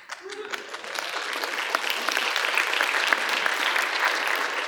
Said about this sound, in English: Now, I appreciate the golf clap, but you're going to have to do better than that.